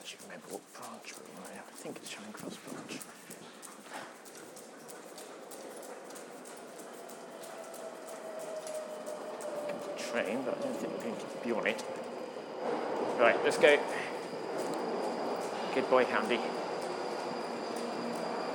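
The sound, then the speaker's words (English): A northbound train sits at a station platform, its steady electric whine and low rumble filling the space, with scattered clatter, footsteps and faint voices around it. “Whichever train is there. It's a northbound.”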